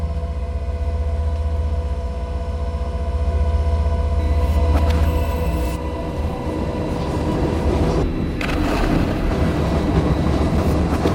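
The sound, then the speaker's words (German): Rail station ambience at the Gare de Lyon with a train rumbling steadily, a low continuous roar with faint metallic clatter and a brief squeal partway through; no one speaks. “Auf dem Vorplatz des Gare de Lyon ist der Zugang zu den Zügen nun durch eine Art Absperrung geschützt.”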